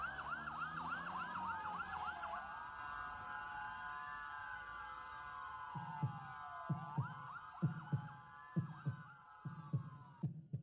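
A wailing emergency siren sweeps up and down, then a steady, loud heartbeat thumps in through the second half, with regular double beats pulsing beneath the siren.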